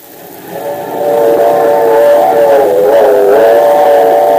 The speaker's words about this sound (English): When the railroad gave us permission to ride the locomotive of the Super Streamer, I was delirious with joy. Now I'm just delirious.